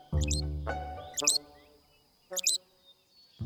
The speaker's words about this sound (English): Loggerhead shrikes are songbirds, and they have these sort of rough-hewn songs, but the colloquial name for a loggerhead shrike is a butcher bird, and they're called butcher birds because they'll catch prey.